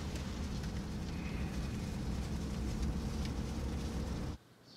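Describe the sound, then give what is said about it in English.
Steady, dense road rumble and hiss of a car heading down a road with a driver and a passenger in the back seat, a continuous low roar with faint higher whine, which drops off abruptly near the end. “As the car heads down a road, Red sits in the back seat and reads the newspaper.”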